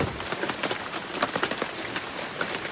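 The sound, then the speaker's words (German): Heavy rain pours down steadily outdoors while the sun shines, a dense, constant hiss of countless drops pattering on a hard surface, with no voices and no pause for the whole stretch. “Es regnet in Strömen und gleichzeitig scheint die Sonne.”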